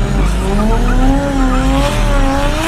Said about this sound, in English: That's when the driver of the car started driving in circles and drifting, trying to shake my mother off.